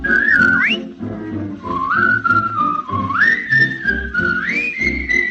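A clear, bright whistled melody with sliding, wavering notes carries on for several seconds over a soft instrumental backing, steady throughout.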